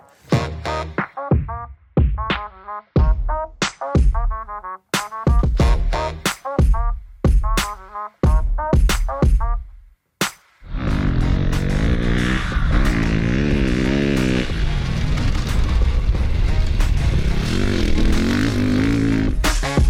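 A KTM 690 cc motorcycle engine blips its throttle in a rapid series of sharp revs for about ten seconds, then roars continuously as the bike rides off, pitch rising and falling with the gears.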